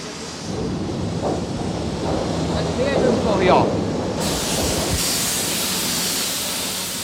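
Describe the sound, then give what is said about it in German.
Glowing molten calcium carbide hisses as it shoots like lava from a furnace opening and across the floor of a smoke- and dust-filled hall: a loud, continuous roaring hiss with rumbling undertones, swelling slightly midway and then holding steady throughout. “Jetzt schießt glühendes Carbid wie Lava aus dem Ofen, zischt über den Boden.”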